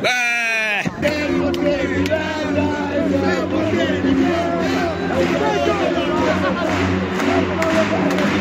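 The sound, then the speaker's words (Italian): A short sustained cry opens, then a large crowd at a hockey game erupts into loud, continuous cheering and shouting, with scattered whoops and excited voices blending into a dense, steady roar. “Un urlo finale?”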